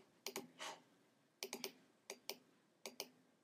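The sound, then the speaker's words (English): Sharp keyboard clicks arrive in short bursts of two or three keystrokes, separated by brief pauses. They are fairly crisp against a quiet background with no talking, as text is typed into an image-editing program on a Mac. “I'm going to choose white, and then I'm just going to make it look professional by typing in GIMP.”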